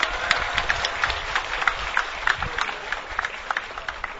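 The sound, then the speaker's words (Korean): Sustained applause from a large outdoor crowd at a union rally, clapping in international solidarity, dense overlapping claps filling the whole stretch at a steady, fairly loud level with no voices standing out. “예, 다시 한번 국제연대의 뜨거운 열을 담아서 박수 보내주시면 고맙겠습니다.”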